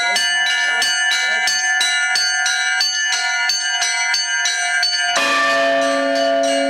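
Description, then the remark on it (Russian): Church bells ring out in a rapid, rhythmic peal of bright, overlapping strikes, loud, before a deeper bell joins with a sustained, resonant toll near the end; bell-ringing at a children's summer bell-ringing school held by the Khabarovsk Theological Seminary in Russia. “В Хабаровской духовной семинарии состоялась летняя детская смена под названием «Школа колокольного звона».”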